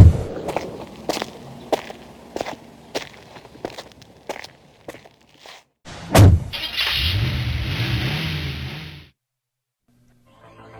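Several sharp footsteps and clicks, then a car engine turns over with a loud burst and roars for a few seconds as the car pulls away, followed by near silence.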